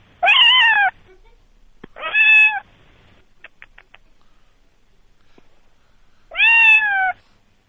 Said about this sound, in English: Did you hear it? I did hear that. That was a good meow, right?